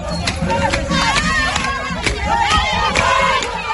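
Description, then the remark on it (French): A large crowd of anti-government protesters in Gonaïves, northern Haiti, demanding the resignation of Prime Minister Ariel Henry, shouts and chants anti-American slogans in a dense, continuous roar of many voices, with rhythmic bursts of yelling rising above the steady hubbub. “comme ici, dans le Nord, au Gonaïves, où l'on a entendu hier des slogans anti-américains.”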